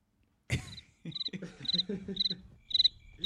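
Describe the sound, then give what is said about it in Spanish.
Crickets chirp in a steady, repeating rhythm, with about five bright, high-pitched trills in quick succession over a low, murmuring background. “Grillo, grillos.”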